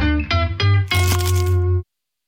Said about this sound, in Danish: Det her var et forsøg på at tage en lydløs bid af den nye knasende kyllingeburger McCrispy. Desværre fejlede det. Prøv om du kan gøre det bedre. Kun hos McDonald's.